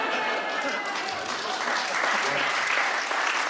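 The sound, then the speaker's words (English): Steady, dense clapping from a sizable audience fills the whole stretch, a continuous wash of applause that swells slightly toward the end, with no voices rising above it. “I'm just going to let the applause ride.”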